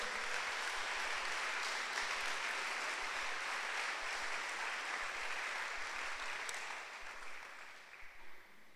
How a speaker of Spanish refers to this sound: Le damos un aplauso a Dios, por favor.